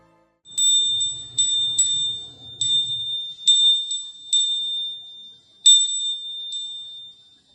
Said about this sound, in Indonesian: Orang tuanya pun menyetujuinya dan memberikan Kinasih sebuah lonceng kecil untuk Kinasih gunakan sebagai pertanda kalau saja ia membutuhkan sesuatu.